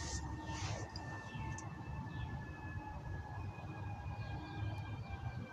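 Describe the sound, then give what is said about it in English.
A siren holds steady, slowly sinking tones over a constant low rumble of traffic-like noise, continuous throughout and fairly faint, with no one speaking. “You said the neighbor just started his Mustang, and now I'm hearing a noise that sounds like a siren in the background.”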